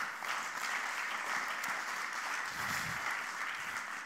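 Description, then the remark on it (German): An audience in a church claps steadily for the Master of Communication as he is called up on stage, a dense, continuous wash of many hands at fairly even loudness for about four seconds, with no talking over it. “ein Applaus für ihn bitte, oder?”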